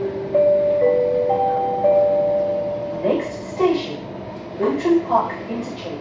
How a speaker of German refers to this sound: Die U-Bahn von Singapur ist die sauberste der Welt.